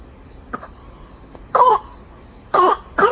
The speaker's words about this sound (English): Oh, cough, cough. You okay? Are you okay?